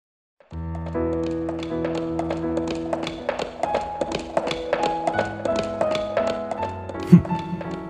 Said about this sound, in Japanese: 馬車に揺られ、ロバートは故郷の道をゆっくりなぞりました。